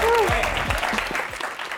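Loud, steady applause from an audience fills the space, a dense wash of many hands clapping at once, with a brief high whistle or whoop rising over it near the start.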